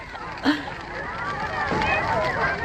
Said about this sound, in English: Oh, look. They've lit the bonfire.